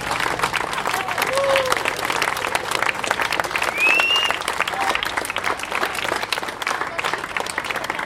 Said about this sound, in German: Ich würde sagen, wir sind ungefähr 250 Leute, 300, vielleicht auch 350. Wir haben gerechnet mit 50, ich hatte 100 angemeldet und absolut klasse. Ein Applaus für euch alle.